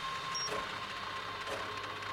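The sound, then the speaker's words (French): A steady mechanical whir from a small Peltier cooler fan at an observatory telescope runs continuously with a faint high tone on top, even in level, with no voices. “Ventilateur du pelletier.”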